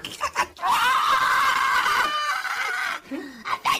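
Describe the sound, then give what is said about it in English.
Someone vocally imitates a loud, drawn-out scream, a strained, high wail held for over two seconds, with short vocal sounds just before and after. “You hear this scream coming from the basement as you get to the door.”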